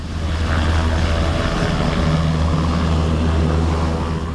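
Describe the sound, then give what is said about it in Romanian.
A loud, steady Black Hawk helicopter drone with a deep rotor throb and engine roar, continuous throughout, with no voices, as military pilots fly it in a display. “Între timp, piloții GAV au oferit un spectacol cu elicopterul Black Hawk din dotare.”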